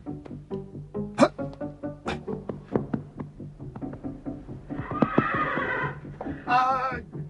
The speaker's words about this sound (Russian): Лошадь взбесилась! Берегись! Беги, беги! Она затопчет нас! Осторожнее!